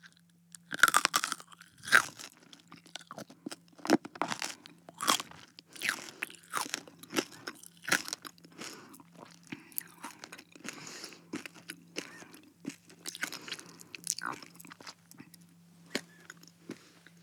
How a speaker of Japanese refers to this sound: このまま食べちゃうね。